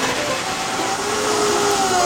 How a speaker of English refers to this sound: Okay, and then we just put the blender on until everything's nice and combined.